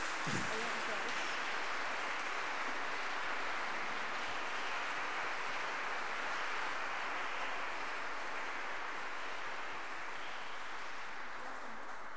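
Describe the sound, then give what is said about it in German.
A large audience claps steadily for about twelve seconds in thanks to a music group, a dense, even wash of applause that stays loud throughout and fades only slightly toward the end. “Vielen Dank, das ist ein Applaus wert.”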